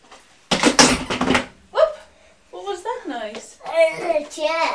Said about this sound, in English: It's the lid too. It's the lid too? It's the toy box.